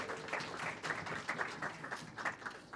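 A crowd applauds with steady, dense clapping, many hands overlapping into a continuous crackle that swells slightly in spots and holds for several seconds at a moderate, fairly soft level.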